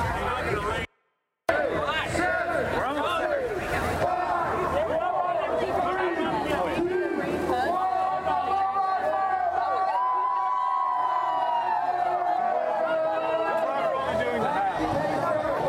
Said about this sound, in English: A few minutes until the race starts, 7:56 a.m. Pretty good crowd vibe out here. There's obviously you can hear the music. Everybody's real excited, and there's no rain. It's awesome. It's pretty cold, though.